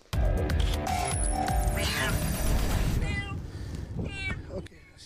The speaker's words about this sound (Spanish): Ahí lo ven, es el momento en el que un policía en Dubái, en los Emiratos Árabes Unidos, rescata a un gato de una zona inundada tras las torrenciales lluvias en esa zona.